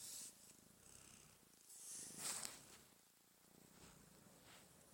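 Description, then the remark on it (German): A cat purrs steadily, a soft rhythmic rumble that swells and fades with each breath, with faint rustling hiss over it and no voices. “Ich weiß nicht, wie Katzen es schaffen, so zu knurren, aber ich glaube, ich schaffe.”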